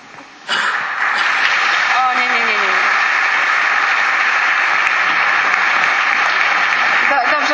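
Audience applause breaks out after a brief quiet moment and carries on, loud and steady, to the end, with a short whoop rising out of the clapping early on.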